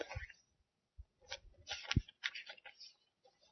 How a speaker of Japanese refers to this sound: そしてこの紙を半分に折ります。